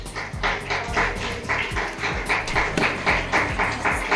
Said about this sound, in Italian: Fategli un applauso da fuori.